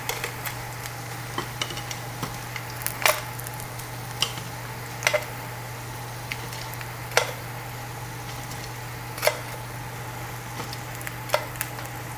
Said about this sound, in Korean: 동파육 가고요. 오우, 뜨거운 기름이 막 튀어가지고.